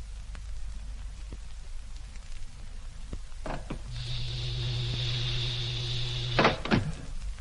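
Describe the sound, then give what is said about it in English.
A spaceship's main door opens: a clunk, then a steady electric whir for a few seconds, ending in a couple of heavy thuds, all over a low rumbling hiss. “Well, let's open the main door and get inside.”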